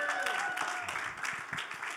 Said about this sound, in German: Gib der Band mal einen Applaus. Jetzt gibt Jesus Christus mal einen Applaus.